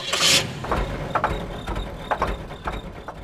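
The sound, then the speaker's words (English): A car engine catches with a brief hissing burst, then settles into a steady low idle rumble with occasional ticks and rattles, moderately loud, with no voices. “But a car's engine is also an example of how we've controlled fire.”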